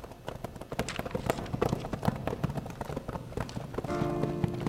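Several horses' hooves clatter on a hard street in a busy, uneven clip-clop, steady in loudness, as the arriving horses come up into a moonlit street and halt at the corner of a saloon, with a brief tonal ringing sound joining near the end.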